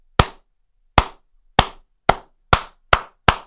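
A single person on a sports radio show gives a slow clap: seven sharp handclaps, spaced widely at first and gradually quickening, each crisp and loud with silence in between and no talking.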